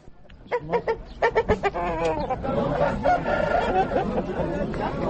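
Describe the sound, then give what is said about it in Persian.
Kalangi chickens, a breed long raised in Afghanistan, cluck in a quick run of sharp bursts, then a rooster's crow rises and blends into a dense, ongoing chorus of fowl calls, fairly loud. “تربیت مرغ کلنگی در افغانستان سابقه داشته و صاحبان مرغ به همه خصوصیات آن آشنا هستند”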